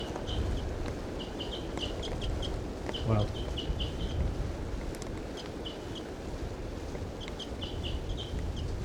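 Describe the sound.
A wild female bird calls in a steady series of short, high-pitched notes over a low rumbling background, with one brief spoken word partway through.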